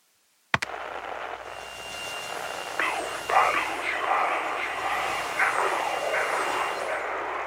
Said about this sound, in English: Replay the distorted part of the call, will ya? I heard a voice in the static.